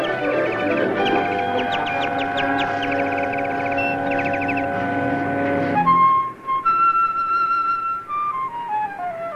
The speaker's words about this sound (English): that is definitely a Canadian crested warbler. To the best of my knowledge, this is the first such sighting in this state.